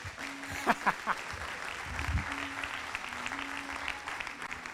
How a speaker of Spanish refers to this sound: Yo que vos aplaudiría también.